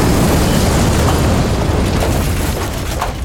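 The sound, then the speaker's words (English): A loud explosion with a deep, roaring rumble fills the whole stretch, heavy in the low end, and slowly begins to fade toward the end. No voices are heard. “Yeah, can we just edit in another explosion to clear our ears?”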